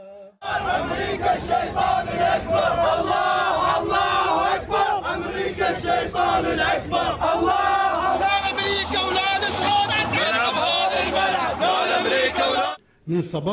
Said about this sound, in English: And I highly doubt he expected to have all his embassies go in lockdown with crowds demanding death at the gates.